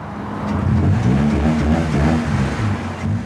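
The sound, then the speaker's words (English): A car engine revs loudly and throatily as the vehicle drives past on Pierce Road, a road circling the town, its driver showing off; the rumble swells and then eases off over a few seconds, with no voices. “Equally, the traffic on Pierce Road knows that if you want to show off, this is the place to do it.”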